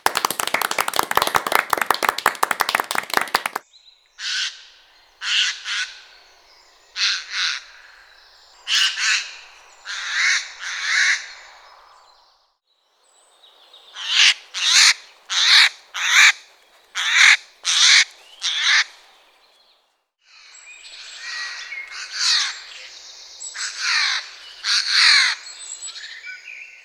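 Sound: eurasian jay calling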